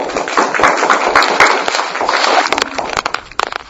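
A crowd applauds with dense, steady clapping that fills the whole clip, the many overlapping claps blending into a crackling wash before thinning out toward the end.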